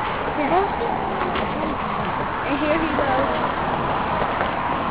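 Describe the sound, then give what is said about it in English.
Pigeons coo in low, rolling murmurs while a man feeds them donuts, against a steady outdoor hubbub, with indistinct voices mixed into the background throughout. “And then every morning he feeds the birds donuts, and it's cool.”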